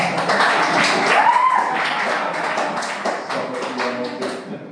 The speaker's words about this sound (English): Hey, can I just start a round of applause?